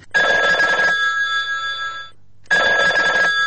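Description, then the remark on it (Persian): A telephone rings in two loud bursts separated by a short pause, a steady electronic tone with a buzzing texture, clear with no voices. “تو باش این زنگ رو کرد.”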